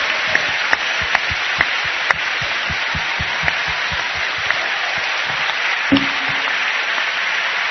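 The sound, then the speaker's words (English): An audience claps their hands to the Lord as a joyful noise in worship, in a steady, rhythmic beat, sharp claps standing out over a loud, continuous wash of crowd applause and noise. “Says, clap your hands.”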